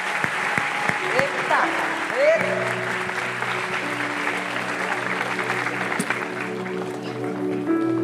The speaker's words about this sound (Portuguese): Deus abençoe vocês, toda a glória, toda a honra ao nome do Senhor. Vamos aplaudir a Ele.